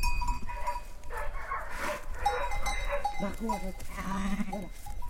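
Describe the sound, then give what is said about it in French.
A flock of ewes and lambs, just let out into a mountain pasture near a home, bleating with overlapping calls, with a faint cowbell clinking in the background over a steady outdoor rumble. “Vous venez de sortir les brebis et les agneaux dans le pâturage le plus proche de chez vous.”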